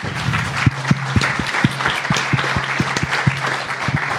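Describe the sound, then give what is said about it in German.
An audience applauds steadily as participants come forward to pick prizes, many hands clapping in a dense, continuous wash, with a few sharper individual claps standing out at a regular beat throughout. “Und nochmal Applaus.”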